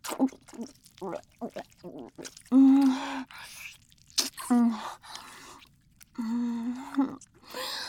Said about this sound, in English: Did you ever think you'd see something like this, baby? Your own boss suckling and slurping your desperate throbbing cock and balls for you.